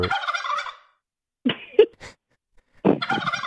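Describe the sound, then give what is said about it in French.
A turkey gobbles in loud, rapid, rattling bursts, with a pause between calls and a shorter burst in the middle, clear with no talking. “C'est le dindon? C'est le dindon, ça?”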